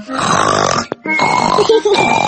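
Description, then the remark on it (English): A voice imitates loud, rasping snoring, two long snorting breaths separated by a brief pause, forceful with a grunting, piglike quality. “Daddy says you always fall asleep and snore loudly, like this.”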